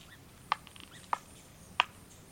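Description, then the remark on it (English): Young pileated woodpeckers beg from inside a tree trunk: three short, muffled squeaky calls, roughly evenly spaced and fairly faint, with no one talking. “When you're lucky, you can hear young woodpeckers, like these pileated woodpeckers, begging from within the trunk.”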